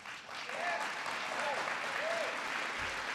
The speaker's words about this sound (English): I got some applause for that.